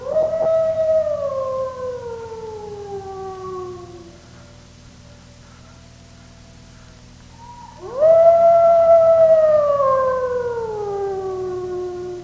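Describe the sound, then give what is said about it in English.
Two long wolf howls, each rising quickly then sliding slowly downward, separated by a few seconds of faint howling. Loud and clear, with no talking over them. “By wolf, I mean the false prophets, the unholy, the selfish ministers, the deceptive teachers.”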